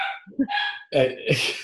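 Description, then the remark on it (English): A dog barks and yips several times in quick, uneven bursts, loud, with sharp harmonic cries and a brief whine between them, reacting to a leaf blower. “And my dog is killing me. I'm going to kill the dog.”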